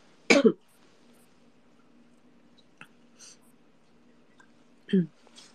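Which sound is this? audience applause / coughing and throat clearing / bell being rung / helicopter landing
coughing and throat clearing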